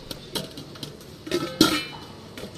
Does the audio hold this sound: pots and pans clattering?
yes